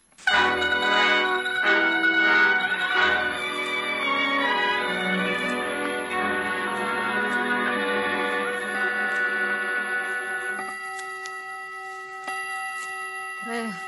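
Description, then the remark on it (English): A clock, running a couple of minutes slow, chimes the hour with a run of resonant, bell-like strikes whose rich tones ring together in a long, shimmering sustain that slowly fades. “Is the clock right, Laura? No, it's a couple of minutes slow, Margherita.”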